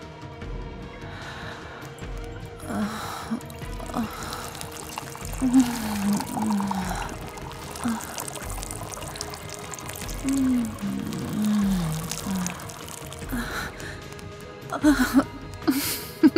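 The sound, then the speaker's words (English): Wine pours and splashes onto a person's chest in several uneven bursts, mixed with soft gasps, sighs and breathy vocal sounds. “I'm going to make a waterfall of wine between my tits for you to suckle and lick off me.”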